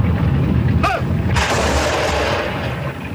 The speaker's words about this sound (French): Des soldats qui ont fusillé d'autres. Mais c'est pas possible. Cocher, Seigneur. Arrêtez. Monsieur l'officier, pourquoi tire-t-il sur ces hommes? Ces hommes, ce sont des Autrichiens. Ils sont désarmés, prisonniers.